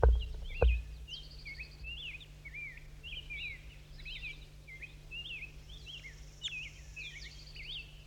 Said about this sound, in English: That's him. It's a wild bird. Now he's down.